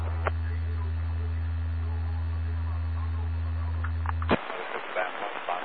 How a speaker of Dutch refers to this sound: Dat was een... Dat was een draaggolf zonder modulatie.